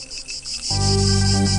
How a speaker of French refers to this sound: Vous les entendez ? Cet été ne sera pas encore un été normal. C'est Cigale qui annonce l'été.